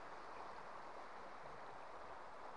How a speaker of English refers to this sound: The light itself is shimmering on the licks of water as it dances over the rocks.